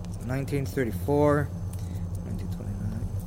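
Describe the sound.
Old Finnish markka coins from before the euro, dated around 1927 to 1940, clink and jingle lightly as they are handled, a few scattered metallic taps over a steady low hum, with a person's voice briefly heard near the start.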